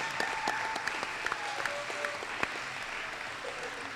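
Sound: crowd applause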